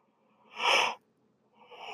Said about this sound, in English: Here comes the yawn.